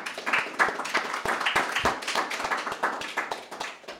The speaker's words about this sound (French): Oui, on peut l'applaudir, je crois. Bravo.